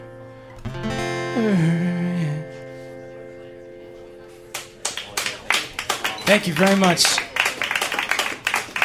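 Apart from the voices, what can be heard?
audience clapping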